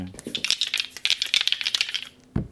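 Two dice are rolled again, clattering and tumbling across a hard surface in a quick burst of sharp, bright clicks and rattles, ending with a final knock as they settle.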